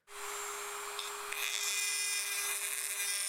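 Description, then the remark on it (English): A high-pitched dentist's drill whirs steadily, its shrill whine holding a constant tone for a few seconds with no talking. “I wasn't at all scared about seeing the dentist until I heard the drilling.”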